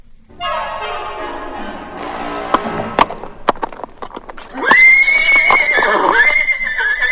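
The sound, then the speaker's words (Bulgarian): A wild stallion being tamed by a rider gives a loud, wavering neigh, followed by sharp, irregular hoof clops on a hard surface and then another long, shrill whinny. “Покорихте най-буйния ми шравец.”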